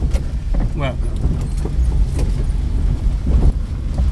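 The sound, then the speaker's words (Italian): A car being driven around the surroundings of a village rolls steadily along a road, its low engine and tyre rumble filling the cabin, with small bumps, rattles and a brief squeak; muffled voices murmur faintly underneath. “decide però di accompagnarmi in macchina a vedere i dintorni del paese.”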